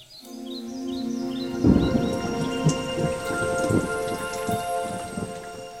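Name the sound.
thunderstorm with rain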